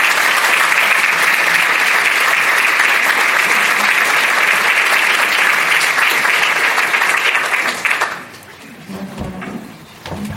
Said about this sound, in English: Please give a round of applause for our moderator